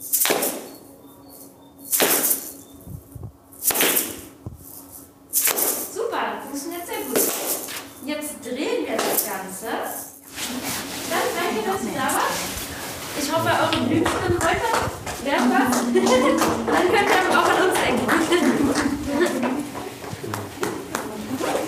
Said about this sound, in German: Und jetzt versuchen wir auf die 1 und auf die 3 zu klatschen. Und bei der 2 und 4 machen wir nichts. Da ist eine Pause. Das heißt, wir klatschen auf 1, 2, 3, 4.